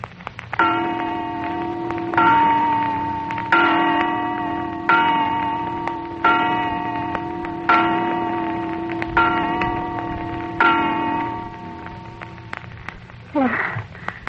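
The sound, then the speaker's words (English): A clock bell strikes eight slow, evenly spaced chimes, each ringing tone sustaining and fading before the next. A brief wavering sound follows the final stroke. “Is that just 8 o'clock?”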